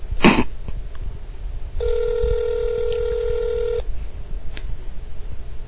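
A telephone keypad tone sounds as one steady electronic beep held for about two seconds as someone places a phone call to a man, preceded by a sharp click, over a low rumbling background with no talking.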